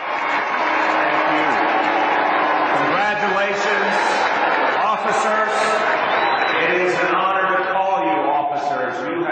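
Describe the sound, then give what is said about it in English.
A large crowd at the NYPD Academy graduation in New York reacts loudly and steadily to Mayor Bill de Blasio with a mix of applause, booing and shouted catcalls, many voices overlapping in a dense, continuous roar that barely dips for about nine seconds. “Today was the NYPD Academy graduation, and New York Mayor Bill de Blasio spoke after some applause, some boos, and some catcalls.”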